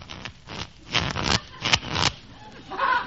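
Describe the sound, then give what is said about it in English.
Playing cards being shuffled before dealing for a card game: a series of crisp, papery riffling bursts in an uneven rhythm, each a brief flutter of rustle, ending with a faint voice starting to speak. “Well, boys, let's deal a little cards, huh? Very well. I'll shuffle.”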